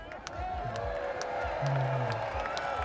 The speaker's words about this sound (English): So, guys, this is the crowd.